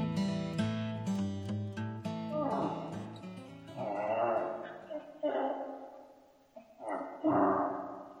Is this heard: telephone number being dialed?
no